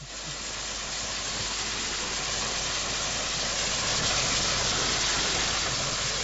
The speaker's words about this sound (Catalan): Jo crec que aquesta màquina de vapor va amb més velocitat que els rodalies d'ara. No sé per què m'ho sembla.